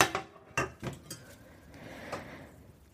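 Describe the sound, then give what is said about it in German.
A frying pan is grabbed and handled before being put on the stove, with several sharp clanks and scrapes of cookware coming in an irregular cluster at first, then one softer knock, with nobody talking. “So, und dann schnappe ich mir meine Pfanne,”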